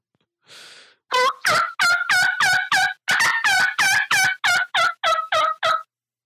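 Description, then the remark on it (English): A loud turkey call played over a speakerphone: a short breathy rasp, then a rapid run of about fourteen sharp, evenly spaced yelps, heard on its own with no talking. “I got the Screaming Eagle or whatever it is. Here's one that's loud as heck.”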